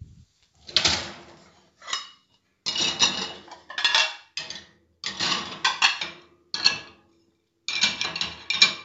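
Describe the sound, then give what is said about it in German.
Dishes and cutlery clatter and clink in a series of short bursts with brief pauses as a woman stacks plates and utensils into a dishwasher. No one speaks. “Es war die Spülmaschine und meine Mutter hat es eingeräumt.”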